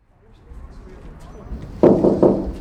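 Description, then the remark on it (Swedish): Two heavy knocks on a large copper door on the facade of one of the two Swedish parliament (Riksdag) buildings on Helgeandsholmen, about half a second apart, each ringing briefly with a dull resonance, following a stretch of low ambient rumble. “Ja, här knackar jag på en stor port. Det är kopparporten.”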